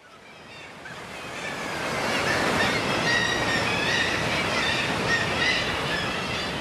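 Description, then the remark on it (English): Shrill kittiwake cries ring out repeatedly over a loud, steady roar of crashing waves on Skellig Mhíle off Kerry, Ireland. The surf swells in the first seconds and then holds, with many birds calling at once and no voices. “Straight off the boat and into a cathedral of crying kittiwakes and crashing waves.”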